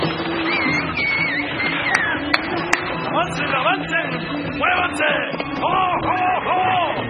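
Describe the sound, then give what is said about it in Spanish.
Horses of a desert caravan setting off, champing at their bits, their stamping and snorting blended into a dense, continuous bustle of shouting voices, with a couple of sharp knocks standing out at the start. “Los fieros caballos mordisqueaban los frenos.”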